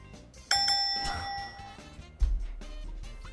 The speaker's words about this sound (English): Was that yours, or they? I'm really confused with the buzzer now.